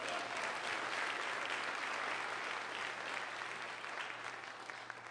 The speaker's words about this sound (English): Give the Lord a great hand clap.